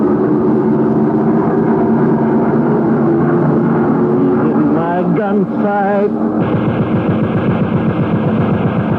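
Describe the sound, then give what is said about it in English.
A loud, steady engine roar drones throughout, thick with low rumble and harmonic whine, briefly wavering mid-way before settling into a harsher, pulsing tone near the end; fighter plane engines in flight at about 17,000 feet among cloud tops. “They're flying in and out of cloud tops at about 17,000.”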